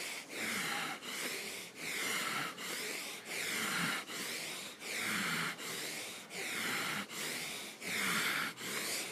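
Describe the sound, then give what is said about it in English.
Rapid, forceful breaths pump in a steady rhythm, about one per second, each a loud, rough rush of air through the nose as a person picks up the pace and intensity of their breathing, with no talking. “Pick up the pace intensity of your breathing.”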